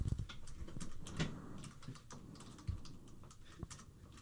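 Rapid, irregular clicking of keys on a computer keyboard, close and moderately loud, with no talking over it.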